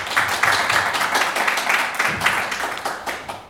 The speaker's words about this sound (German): Man darf gut klatschen.